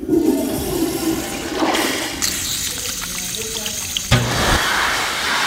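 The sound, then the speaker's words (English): A toilet flushes with a loud rushing gurgle, then a tap runs steadily into a sink, water splashing before a brief louder burst of flow near the end. “Flush, wash, dry.”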